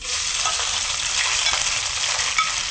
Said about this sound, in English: I just love the sound of sizzling when it's cooking. It sounds delicious when it's sizzling. It sounds pretty musical.